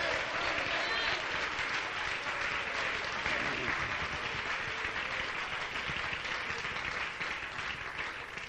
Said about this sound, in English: We ought to just stand up and clap our hands for a moment and thank God for the revelation of the truth and the Word of God.